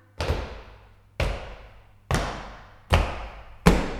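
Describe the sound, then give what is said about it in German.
Five slow, heavy footsteps thud at an even pace, each one ringing out briefly, growing slightly louder toward the end as if drawing nearer. No voices accompany them. “Ich höre Schritte, die immer näher kommen.”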